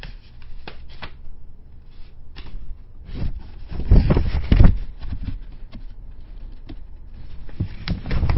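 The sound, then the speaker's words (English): A large sheet of paper rustles and crinkles, with irregular crackling handling noises that swell into a louder burst midway before settling back to softer shuffling. “This is big paper.”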